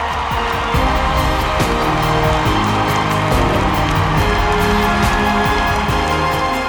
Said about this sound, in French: Bailey et ses 3 coéquipiers sont chaudement applaudis au Canada.